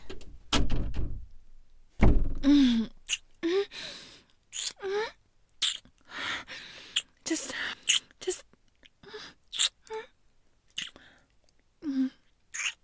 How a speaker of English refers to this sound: Get in the pantry. Okay, close the door.